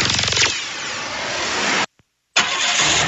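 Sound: car engine starting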